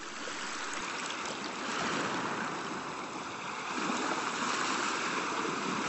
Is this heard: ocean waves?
yes